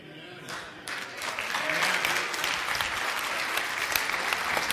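A crowd bursts into applause, building quickly from a few claps into sustained, dense clapping that stays steady and fairly loud throughout, with no voices rising above it.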